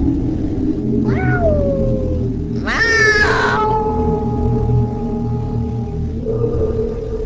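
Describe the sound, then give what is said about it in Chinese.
A cat wails at night in a few drawn-out, mournful cries, the loudest and highest in the middle, rising over a constant low rumbling background of strong wind on a winter night. No one speaks. “这时候猫开始哭了，说不清这猫是哪里的，这令人厌恶的声音萦绕在整个黑夜里，夹杂在风里，被吹得飘忽不定，让人头皮发炸。”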